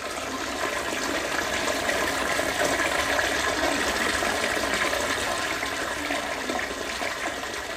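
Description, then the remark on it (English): A toilet in the lavatory of a Yangtze River ferry flushes with river water in a loud, steady rush that pours continuously for several seconds, a broad hissing gush with no voices. “We are now standing in the ship's lavatory of the Yangtze ferry.”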